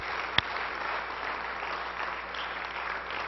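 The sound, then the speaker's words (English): An audience claps steadily, a dense wash of many hands with no clear rhythm, holding at an even level throughout, with one sharper knock early on. “Let's give the Lord a big clap today.”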